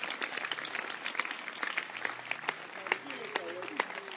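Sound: people clapping hands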